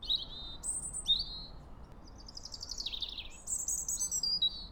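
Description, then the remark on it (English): Birds chirp continuously early in the morning in a series of bright, high-pitched tweets and trills over a soft low background hum with no talking. “I always had to take the school bus bright and early where the birds were chirping.”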